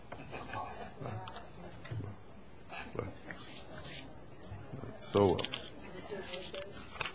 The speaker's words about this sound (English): And I can't get the wrapper off of this cough drop. I hate eating the paper.